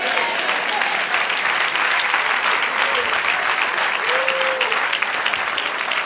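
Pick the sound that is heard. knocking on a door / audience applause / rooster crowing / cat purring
audience applause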